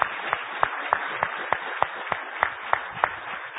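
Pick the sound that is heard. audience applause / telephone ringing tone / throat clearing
audience applause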